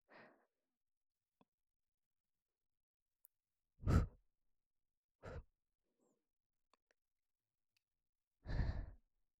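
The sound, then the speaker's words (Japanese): Breath blown into the ear during ear cleaning in four separate whooshing puffs, soft and airy, spaced irregularly with quiet pauses between, the last one longest and fullest. No talking. “じゃあ、お掃除しやすいように、お耳の中ふうってしていきますね。”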